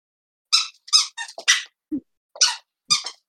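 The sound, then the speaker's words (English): A squeaky toy being chomped by a dog: about seven shrill, high-pitched squeaks in an uneven burst, each short and bright, with a lower squeak midway and no talking. “who's squeaking the toy in the background. Or that's, maybe that's my fucking retarded dog”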